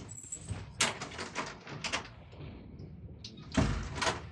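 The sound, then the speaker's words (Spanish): The double front door of a house is opened under strong midday sun after a man leaves his car: a faint high tone fades, then a series of latch clicks and rattling handle noises, ending with a louder thud and swish as the doors swing. “Abandonando el auto, se encamina a la puerta doble de su coqueta casa.”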